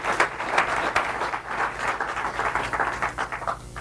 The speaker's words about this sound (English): I mean, I'm sure you're all absolutely as blown away by that talk as I am, and I'd like to ask for a round of applause, please.